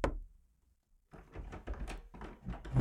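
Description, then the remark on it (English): A dull thunk, a short pause, then a run of metallic clicks and rattles as a lock is worked and a door swings open at 3 a.m., with no voices. “Open up, Sue. Come on. I'm coming.”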